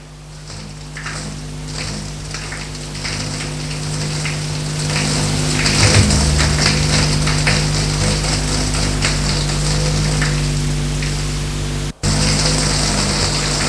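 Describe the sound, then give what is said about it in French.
Water streams steadily from a shower in a bathroom as someone takes a shower, a dense hiss of spray with faint patters of droplets, growing slightly louder partway through and running on continuously with no voices. “Et va dans la salle de bain pour prendre une bonne douche.”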